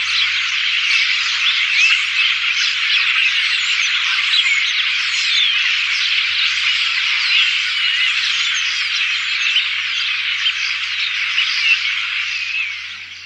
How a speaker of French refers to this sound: Donc vous voyez que c'est un vrai chorus, un bruit de fond de tous ces oiseaux qui chantent.